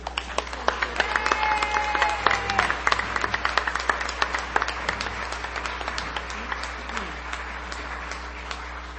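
An audience at an Al-Anon meeting applauds steadily, many hands clapping in a dense, crackling wash that holds for several seconds before gradually thinning out, with faint voices murmuring underneath.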